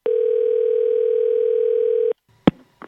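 A telephone call ringing out: one steady, buzzy ringback tone lasting about two seconds, followed by a sharp click as the line picks up and a little faint rustling.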